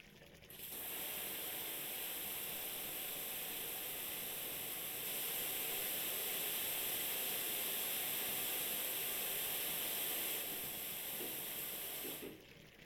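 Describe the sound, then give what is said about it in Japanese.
Steady shower spray hisses for about twelve seconds, a broad rushing water sound that swells slightly midway, as a shower wets the hair of a person seated on a stool before shampooing; no one speaks. “まずシャワーで髪濡らすから。”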